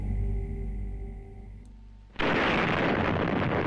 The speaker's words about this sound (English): Its explosion is 3,000 times more powerful than the bombs dropped on Japan during World War II, and sends a dust cloud 42 miles into the sky, so high it could be seen from space.